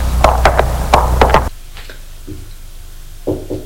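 A series of sharp, loud knocks on a door by a group leader arriving with his men, about five raps in two quick groups, then a quieter pause with faint muffled sounds afterward.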